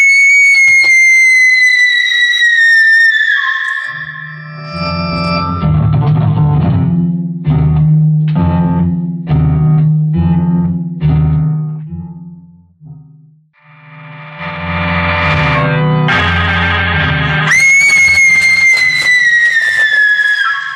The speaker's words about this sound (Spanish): Es la señorita Nadia quien grita. ¿Qué puede pasarle?